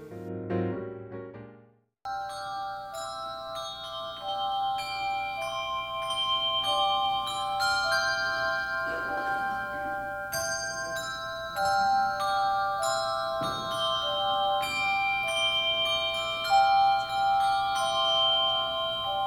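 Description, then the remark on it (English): A handbell choir rings many overlapping pitched tones that shimmer and sustain at a United Methodist church in Sandy, Utah, on Bell Sunday, with fresh strikes layering in steadily for most of the passage after a brief quiet lead-in. “Welcome to Hilltop United Methodist Church and Bell Sunday. My name is Andrew Smith. I'm the director of the Hallelujah Bells.”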